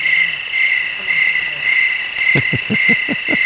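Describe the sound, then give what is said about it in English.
Crickets chirp in a steady, continuous high trill throughout, with a series of low, rapid thumping pulses breaking in over the last second. “You like those crickets”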